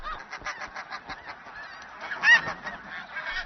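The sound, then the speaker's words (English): Snow geese honking at their breeding grounds inside the Arctic Circle as newly arrived pairs stake claims to nesting patches, in a dense, overlapping chorus, with many calls layered together and one louder honk rising above the din near the end. “As soon as couples arrive, they must stake a claim to a nesting patch.”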